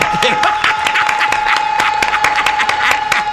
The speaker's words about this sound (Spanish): La barra aplaudiendo.